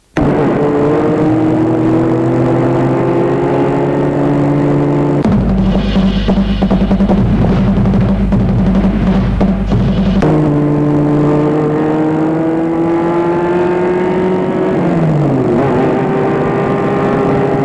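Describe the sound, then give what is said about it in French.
A car engine hums steadily as the car leaves Lyon and drives onto the ring road to join the motorway, its pitch rising and falling with gear changes, with a louder, rougher roar of acceleration in the middle before settling again. “La voiture quitte Lyon et prend le périphérique pour rejoindre l'autoroute.”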